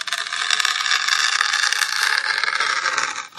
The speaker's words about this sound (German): Das ist das Geräusch hier. Fingernagel, die Alufolie von einem neuen Nutella-Glas einreißen, ritzen.